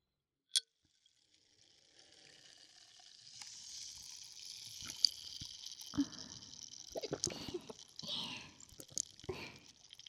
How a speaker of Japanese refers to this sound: おいしい？結構ごくごく飲むんですね。炭酸強くないですか？喉にもシュワシュワってして、私の炭酸体に広がってくれたかな。